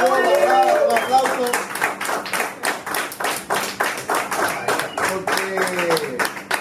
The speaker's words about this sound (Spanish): Aplausos. Me gusta eso.